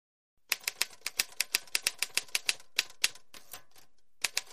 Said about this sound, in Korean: 타자기 소리는 종종 특히 줄이 바뀌면서 벨이 울릴 때면 음악 같았고 몬트클레어 집의 지붕을 때리는 세찬 빗소리나 창문에 돌을 던질 때 나는 소리를 떠올리게 했다.